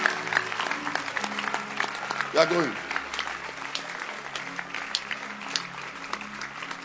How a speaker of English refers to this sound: Clap your hands.